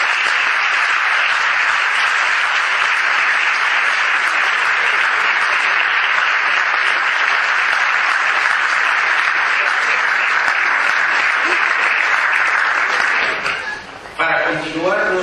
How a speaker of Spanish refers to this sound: Comenzando, por lo tanto, brindando un fuerte aplauso a nuestro homenajeado